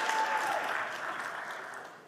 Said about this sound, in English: Perfect, thank you. Thank you. Wow, a double clap.